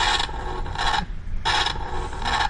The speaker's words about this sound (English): And finally for today, the sound of my room, 5S, temperatures for 2018.